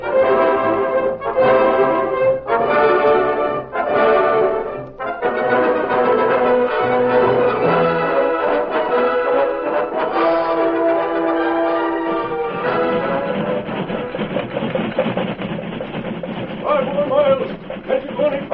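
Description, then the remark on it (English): A steam locomotive with its safety valve tied down rumbles along at speed while its bell clangs in a steady, repeated rhythm, bright ringing strokes at first giving way to a dense, continuous mechanical clatter. “That horse can beat this steam engine any day.”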